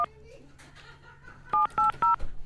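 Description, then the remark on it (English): Touch-tone beeps of a cell phone number being dialed on a radio show to call veteran DJ Gaylord Fields: one short tone, a pause, then three loud, evenly spaced dual-pitched beeps over a faint low hum. “His cell phone number? Well, let's hope this is it.”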